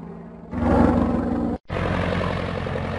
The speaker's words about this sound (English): I am an airplane. I fly in the sky. A pilot flies me and people along with their luggage and that can travel inside me.